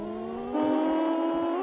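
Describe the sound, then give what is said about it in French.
A racing video game car engine, played in single-player mode, hums with a steady synthetic drone, then steps up in pitch and loudness as it revs higher, holding a sustained whine with no voices. “Regardez le décor, sa vitesse de défilement, écoutez le bruit du moteur.”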